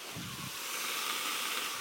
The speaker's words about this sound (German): Ich bin am Brutzeln, sprich, ich habe meinen Grill angeschmissen. Und zwar meinen Kontaktgrill. Ich glaube, ich bin der Einzige, der in so einem Hotelzimmer sitzt und sich mit dem Kontaktgrill irgendwas Leckeres zu essen macht.